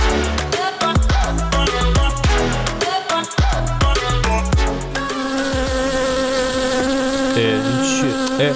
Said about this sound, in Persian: این چی مگسه؟ آقا اینجا چی کار میکنه؟ این نه نه زنبوره، زنبوره صداشه، فقط صداشه، نگران نباش.